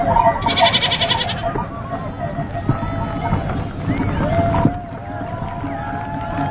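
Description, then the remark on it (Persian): A flock of sheep bleats in overlapping calls, some louder than others, over a busy outdoor bed of shuffling and rustling. “قدرت به طرف گوسفندا میره و کوکب که گویی از قدرت خوشش میاد میخند.”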